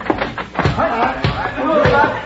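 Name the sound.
door opening and closing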